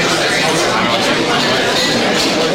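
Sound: crowd murmuring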